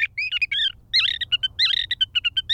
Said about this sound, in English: As for the sage thrasher, he's still going strong.